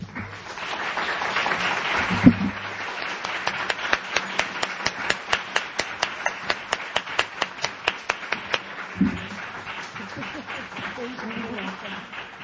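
An audience in Philadelphia applauds to welcome the author Zane, with a wash of clapping and crowd noise and a steady, rhythmic string of sharper claps for several seconds before the applause fades back into general noise.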